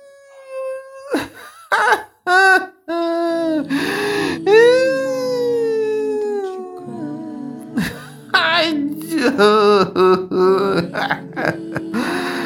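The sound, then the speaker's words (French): A single voice lets out an exaggerated fake wailing cry, loud, with drawn-out sobbing wails that swoop up and down in pitch, broken by short gasps and sniffling breaks. “Moi-même, je crois que je vais pleurer là.”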